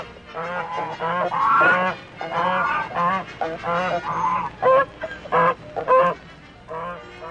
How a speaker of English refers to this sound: Ducks and geese.